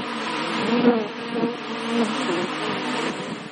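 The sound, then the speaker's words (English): A dense swarm of honeybees buzzes steadily, many overlapping wings forming a continuous droning hum with slight swells in pitch and loudness, and no voices. “That wall will then be encased in glass and filled with bees.”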